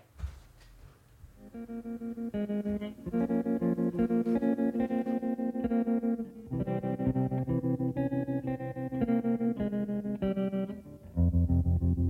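A recorded song's instrumental intro: moody, effect-laden electric guitar playing slow sustained chords over a low bass, shimmering and steady, with no vocals yet and a brief pause before a deeper chord.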